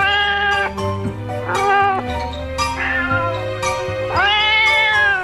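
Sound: cat meowing loudly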